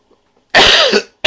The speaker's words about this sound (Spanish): Aquí está, momento tos, perdón.